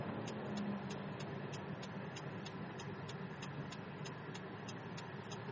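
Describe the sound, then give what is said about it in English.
A steady, loud roar of a car engine and heavy highway traffic in a construction zone fills the whole stretch, with a faint regular ticking repeating about twice a second over it. Nobody speaks. “And traffic is crazy. I think we're all going to get smashed here.”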